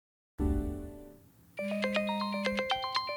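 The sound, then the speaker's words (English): A phone rings with a bright, melodic electronic ringtone, a quick run of repeating notes over a steady low drone, loud, following a brief fading low tone. “picks up the phone.”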